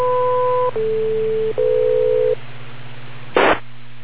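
A radio net beep tone on the TechNet: three steady electronic tones in a row, mid-pitched then lower then slightly higher, followed by a brief burst of static over a low constant hum.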